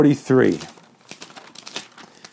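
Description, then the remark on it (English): A brief spoken phrase opens, then a run of soft, papery rustles and crinkles, several Bible pages being turned in quick, irregular succession as people look up Genesis chapter 43, moderately quiet. “I can hear those pages turning.”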